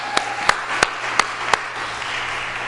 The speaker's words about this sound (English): Now, would you join me in a round of applause